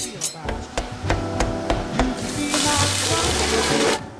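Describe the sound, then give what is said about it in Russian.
Food sizzles and hisses steadily in a hot pan on a stove for the last second and a half, after a run of sharp, evenly spaced knife chops of food on a board. “Позже Шон точит нож, нарезает продукты и готовит их на плите.”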